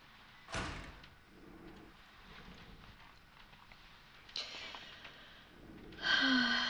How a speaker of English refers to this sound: Now, a little help with this door. It's pretty heavy.